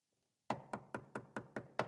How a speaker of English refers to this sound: A knock comes at the door. The man opens the door.